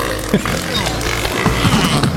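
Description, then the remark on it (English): Deep, guttural grunts and belch-like bellows from sea lions mating come in a quick, uneven series, loud against a steady wash of background noise. “You know, at 5:30 this morning when we signed on, I didn't know that by the end of the show, we would be listening to the sounds of sea lions mating.”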